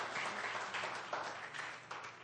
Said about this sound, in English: Holy is the Lord, God Almighty. I want you to give the Lord another hand of praise here tonight. What a excited crowd here tonight.